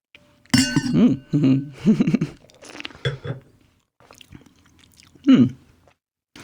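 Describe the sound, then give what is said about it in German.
Wine glasses clink with a short ringing tone, followed by slurping and sipping mouth sounds as the wine is tasted, a brief pause, then another loud slurp near the end. “Jetzt probieren wir mal kurz. Ich muss ihn selbst probieren.”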